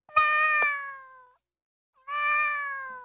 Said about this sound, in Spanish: Eso es un gato.